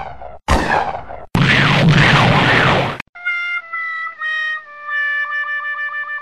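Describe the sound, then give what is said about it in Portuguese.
A loud explosion erupts in two rough bursts and rumbles for about two seconds, then gives way to a run of bright, ringing electronic tones that step downward. “A explosão os arremessou chamuscados a metros de distância.”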